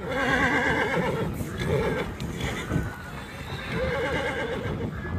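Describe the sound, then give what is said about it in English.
Horses of about 400 Native American riders heading north through snow on the Standing Rock Sioux Reservation, North Dakota, toward the Cannonball River in April whinny with wavering, high-pitched neighs over a steady bed of hoofbeats and rustling movement, loud and busy throughout with no voices. “It started on horseback early last April on the Standing Rock Sioux Reservation.”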